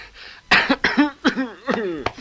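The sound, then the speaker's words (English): A loud fit of about five harsh coughs in quick succession, each bursting out with a raspy, voiced tail, with no talking around them. “Good cough. Get rid of the old nicotine.”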